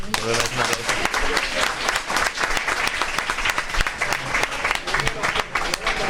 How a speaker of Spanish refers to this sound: Pues yo creo que merece un aplauso, ¿verdad?